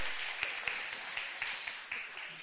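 A group of people applauds steadily, dense overlapping claps forming a continuous crackle with a few sharper individual claps popping out above the wash.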